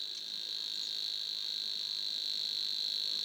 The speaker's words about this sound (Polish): bo właśnie w trzcinowisku czy tużycowisku, w bezpośrednim sąsiedztwie wody, mieszka brzęczka. Ten śpiew jest najszybszy, właściwie nie możemy odróżnić tych pojedynczych sylab, więc przypomina jednolite brzęczenie, jak wskazuje jej nazwa.